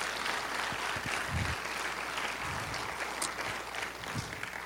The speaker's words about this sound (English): So let's give these young ladies a round of applause.